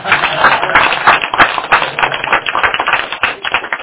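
An audience gives thank-you applause at the end of a class session: steady, dense applause, many hands clapping in a loud, crackling wash that holds evenly for about four seconds with no voices over it.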